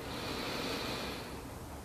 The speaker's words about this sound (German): Wir nehmen den zweiten tiefen Atemzug und atmen ein.